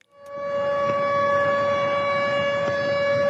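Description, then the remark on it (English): A loud, sustained air raid siren wails in the Russian territory of Belgorod after an attack across the border, on a steady tone with rich harmonics, rising in quickly at the start and holding constant throughout, with faint background noise and no speech. “But this air raid siren went off in the Russian territory of Belgorod after an attack across the border.”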